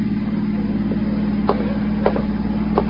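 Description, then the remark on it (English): A car engine rumbles steadily outside, a low, even drone at moderate volume with a few faint clicks over it, and no voices. “No, there's a car out there.”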